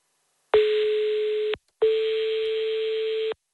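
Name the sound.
telephone ringback tone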